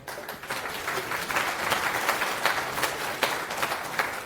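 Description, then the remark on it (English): An audience applauds steadily as a speaker is introduced to give a talk on security by testing: many hands clapping in a dense, sustained patter at moderate volume, with no one speaking over it. “Round of applause.”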